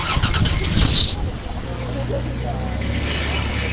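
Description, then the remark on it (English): A U.S. postal truck's engine, just filled with E85 fuel at a pump, cranks to life with a short high-pitched squeal, then settles into a steady, low rumble as the vehicle moves off on its rounds. “Next in line at the pump was a U.S. postal truck, which filled up on E85 before taking off on rounds.”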